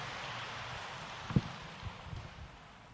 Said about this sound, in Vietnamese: Xin vị dành tràng pháo tay để lắng nghe sự chia sẻ của Đại Đức Thiện Trí.